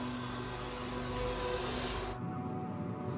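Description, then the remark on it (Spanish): A vacuum cleaner runs steadily with a broad, hissing roar and a low motor hum as police vacuum a car interior to find hairs and fibres, its airflow abruptly dulling near the end as if the nozzle is pressed against upholstery. “La policía toma varias prendas de ropa y limpia el interior con una aspiradora para hallar cabellos y fibras.”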